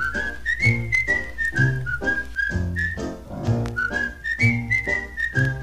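A bright whistled melody glides along over a steady, bouncy accompaniment with regular low rhythmic beats, opening a Christmas song recording with no voices.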